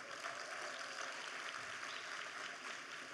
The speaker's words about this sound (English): That was absolutely wonderful. Can we give him another round of applause?